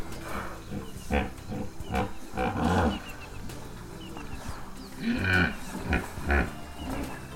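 Hippopotamuses snorting and grunting as they surface from a river in Makuleke, the northern Kruger National Park in Africa, a series of deep, breathy blasts and low rumbling bellows with short pauses between them, loud and with no one talking.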